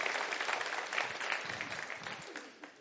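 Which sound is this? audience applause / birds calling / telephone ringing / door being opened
audience applause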